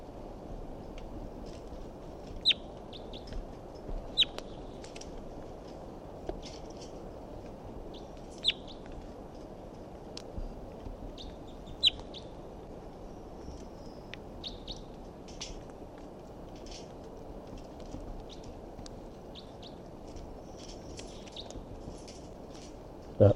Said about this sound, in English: So recording, this is the vocalizations of a wild bird that's here up in the big pine tree above the net. Wild bird calls and decoys respond.